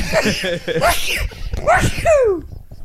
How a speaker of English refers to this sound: What was that? I sneezed. That was that real? That was my beard hair tickling my nose.